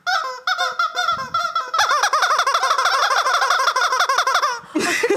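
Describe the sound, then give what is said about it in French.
A squeaky rubber chicken toy squawks loudly and continuously, with rapid, honking squeals pulsing in quick succession for several seconds before ending in a brief rustle. “c'est pas un coin-coin, c'est un poulet.”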